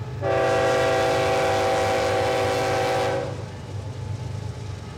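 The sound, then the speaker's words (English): A loud, sustained train horn blares for about three seconds over the heavy rumble of a passing coal train running right alongside a farm, then cuts off, leaving the low rolling clatter of the cars continuing alone. “Today, coal trains run right alongside the farm 3 to 4 times per day, a striking reminder of the state's long history with extractive industries.”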